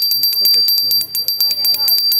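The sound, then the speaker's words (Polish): A small church-style hand bell rings in a quick, steady series of strikes, its bright high-pitched tone sustaining between hits, with faint voices murmuring underneath. “To zupełnie inne dzwoneczki. Ten jest bardziej taki kościelny.”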